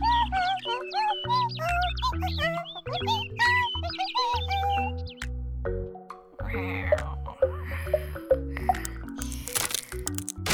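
A bird sings a busy, noisy run of high, quick chirps and warbles over steady low musical tones, then scattered clicks and crackling sounds follow in the second half.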